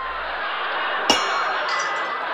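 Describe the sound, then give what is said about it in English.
A dog's water bowl with some water in it gives one sharp, bright clink that rings briefly before fading, set against a steady low hiss. No one speaks. “Here's our dog's bowl. It's got some water in it.”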